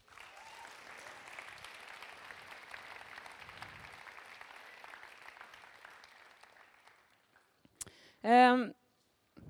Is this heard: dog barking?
no